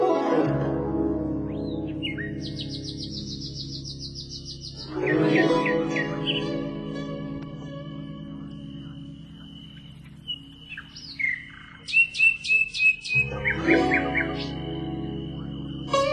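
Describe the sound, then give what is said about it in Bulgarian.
A nightingale sings clear in varied phrases: rapid trills, high piping notes and sharp repeated chirps, with short pauses between bursts over a steady low background hum. “Господи, колко хубаво пее славеят!”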